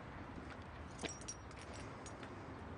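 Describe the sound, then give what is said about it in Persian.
A quiet, brief jingle of apartment keys being handed over, a few light metallic clinks over a steady background hiss, with no one speaking. “این چیه؟ کلیده یه آپارتمان، آدرسشو براتون میفرستم.”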